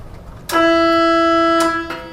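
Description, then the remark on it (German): The horn of a hydrogen-powered push boat on a canal sounds one loud, steady, mid-pitched blast lasting just over a second, starting and ending with sharp clicks, then a brief second click; no one speaks. “Nur mit einer Hupe kann sich das Boot bemerkbar machen, falls es mal im Kanal eng wird.”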